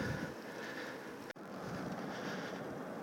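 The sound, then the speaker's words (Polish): Steady, roaring wind buffeting a microphone while riding downhill, a dense rushing noise that cuts out for an instant midway, then resumes just as loud, with no voices. “No dobra, trochę wieje, bo jadę teraz z górki.”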